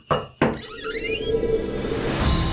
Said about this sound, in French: C'est l'heure d'ouvrir une porte.